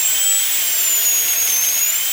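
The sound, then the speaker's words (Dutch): A steady, high-pitched whine of a dentist's drill holds for a couple of seconds with a slight waver in pitch over a hissy background. It is fairly loud, and no one speaks. “Het geluid van de boor. Want de tandarts heeft een heel hard geluid voor de boor.”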